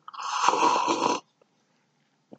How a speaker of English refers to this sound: I'm going to take another sip just to let you know. When I do these pauses, you don't hear the... That means I'm still taking a sip.